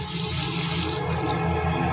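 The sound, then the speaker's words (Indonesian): Water runs steadily from a washbasin tap, a continuous hiss and splash with a low rumble underneath, no voices. “Aku pun langsung mematikan keran air itu”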